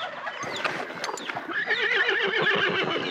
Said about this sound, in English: A horse.